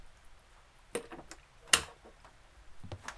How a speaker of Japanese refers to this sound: 鍵、閉めてくれるか？